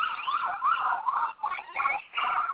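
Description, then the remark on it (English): Police sirens wail continuously with rising and falling sweeps, a bit muffled but loud and steady, briefly dipping and swelling as they pass along a city street in New York City. No one speaks. “Those police sirens aren't coming for me, fellas.”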